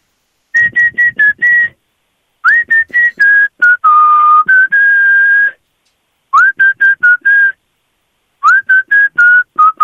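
A player in a song-guessing game whistles a bright, clear pop song melody in short phrases of quick repeated notes with brief pauses between, fairly loud, with no talking.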